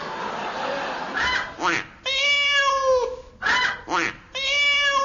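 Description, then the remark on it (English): A voice imitates a cat, making drawn-out nasal meows in a repeating pattern, each long wail preceded by short squawking bursts, fairly loud. “That was a chicken duck cat.”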